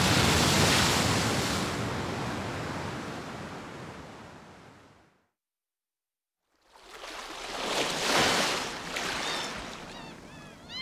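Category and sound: nature, ocean waves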